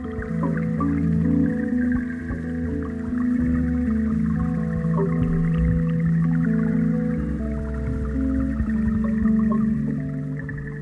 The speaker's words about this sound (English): Even though you're under this like whirlwind of water, it just picks up the tiniest little things.